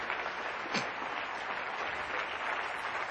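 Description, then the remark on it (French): A large crowd claps steadily and continuously, a dense wash of applause that holds at an even, fairly loud level throughout without any clear speech. “Quelqu'un devrait applaudir, le Christ est ressuscité.”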